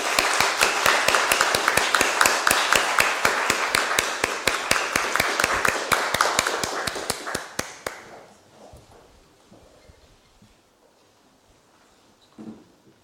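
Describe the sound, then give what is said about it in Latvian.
People at a Daugavpils city council meeting clap steadily for several seconds, the applause dense, then it thins and fades out, leaving quiet room noise and a faint late sound. “Tagad varam svinīgi apslēgt. Lūdzu aplausīt.”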